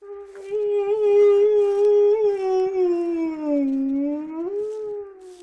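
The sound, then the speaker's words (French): A dog mourning its dead master lets out a single long, mournful howl that holds steady for several seconds, sagging lower in pitch before rising again near the end, fairly loud with nothing else around it. “fit entendre un second hurlement plus prolongé, plus triste et plus lamentable encore que le premier.”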